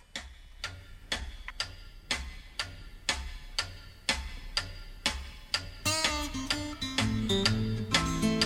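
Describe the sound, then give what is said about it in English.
The pendulum of a big wall clock ticks loudly and steadily, about two crisp ticks per second, and partway through a swell of music rises beneath the ticking, which keeps going over it. “Big clock on the wall, about to drive me insane. I got the pendulum sound pounding in my brain.”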